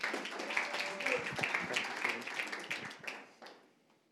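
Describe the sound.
Audience applause in a church, welcoming the fifth and final speaker, a dense wash of many hands clapping at a steady moderate level, tapering off and fading out toward the end, with some murmuring voices mixed in.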